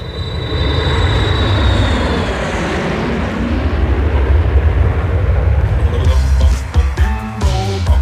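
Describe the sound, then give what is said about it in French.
An airplane engine being warmed up runs with a loud, steady roar and a thin high whine at the start, turning choppy and stuttering in the last couple of seconds. No one speaks. “Latex, fais chauffer l'avion, s'il te plaît.”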